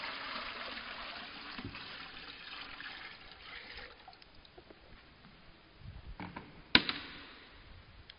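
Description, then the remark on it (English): Water is poured steadily into a baptismal font for a baptism, a splashing rush for a few seconds, then it trickles off, followed by a few soft clunks and one sharp knock. No one speaks. “And we get a lot of water. So hopefully I won't spill this all over.”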